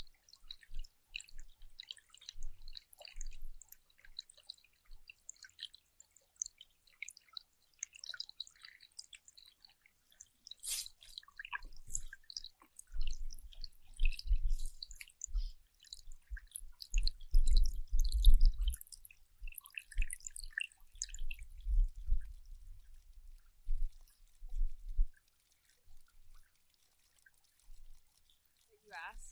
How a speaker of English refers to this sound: Water sounds. Yeah, there's some water sounds.